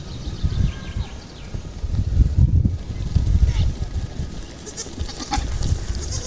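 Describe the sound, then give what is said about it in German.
A herd of goats patters past, a busy scatter of hoofbeats on the ground, with occasional bleats and faint murmuring voices mixed in. “Hört ihr das Trappeln der Ziegenhufe?”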